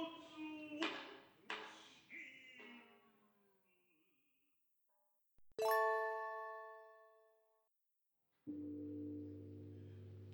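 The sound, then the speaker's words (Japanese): In a kabuki stage performance, a temple bell, the evening iriai bell marking dusk, tolls once, loud and resonant, its ringing hum fading slowly over a couple of seconds. Earlier come a few softer struck tones, and a low sustained drone follows afterward. “鐘は無常の時を打つ、日暮れを表す入り合いの鐘が響き渡ります。”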